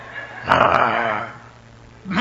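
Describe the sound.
A person voices a short, loud bark-like sound in imitation of a dog, one burst with a rough, harmonic tone, followed by a faint tail and the start of another vocal sound.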